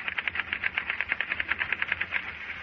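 Office typewriters clatter in a fast, steady stream of sharp, bright keystrokes, roughly eight per second, over a low background rumble, with no voices.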